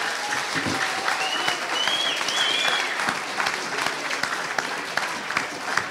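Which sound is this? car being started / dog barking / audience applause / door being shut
audience applause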